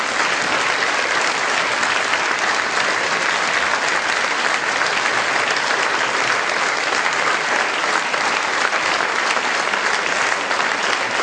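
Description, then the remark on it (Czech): Sustained, dense applause from an audience for a speaker at the end of a talk, a steady wash of many hands clapping at even loudness for about eleven seconds without pause or voices. “Užij si potlesk.”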